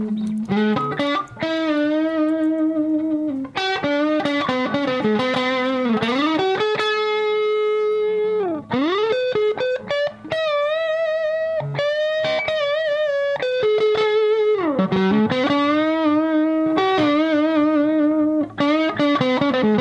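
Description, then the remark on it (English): A distorted electric guitar with Zex coil pickups and stainless steel frets plays sustained lead notes with wide, expressive string bends and vibrato, loud, with no one talking. “Distortion on it.”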